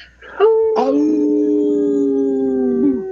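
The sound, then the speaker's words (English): Two show hosts howl together in imitation of wolves, rising quickly into a long, steady, overlapping wail held for a few seconds before dropping off. Loud, with no talking. “Thanks for not leaving me to howl on my own today,”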